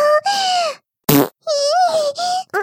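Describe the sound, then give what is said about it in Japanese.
Several loud farts in quick succession: long squeaky, high-pitched toots alternate with one short, raspy, sputtering burst, with brief silences between them and no talking. “おなら、すごすぎるよ”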